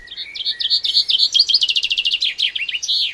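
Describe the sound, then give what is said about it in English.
A bright chaffinch song: a rapid series of descending trilled notes that accelerates into a quick run and ends with a short, emphatic flourish, clear and alone without any talking. “Around the UK, this final flourish varies, and different populations of chaffinches have developed recognisable regional dialects.”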